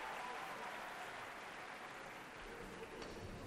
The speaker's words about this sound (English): As you can hear from the wild applause, the audience loved that performance, so Conrad Tau treated us to an encore.